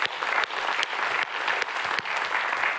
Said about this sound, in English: And then for everybody else that's watching, we're going to give you a big warm round of applause and say thank you for joining us online.